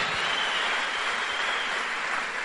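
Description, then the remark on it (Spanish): A crowd applauds the 'diamond' leaders present, a dense, steady wash of many hands clapping at once, holding an even loudness throughout without any voices breaking through. “Así que un aplauso para todos los diamantes representados acá, por favor, que son todos sus líderes.”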